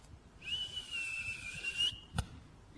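A man alone on a terrace gives a very particular whistle, one long, steady high note that lifts slightly at the end, held for about a second and a half, followed shortly by a brief dull knock.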